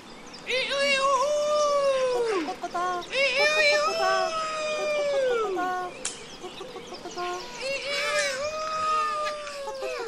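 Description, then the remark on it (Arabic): A rooster crows loudly three times in a row, each call a long, drawn-out cry that rises and then falls, with short gaps between them and a faint background hum. “لماذا يصيح الديك هكذا بأعلى صوته؟”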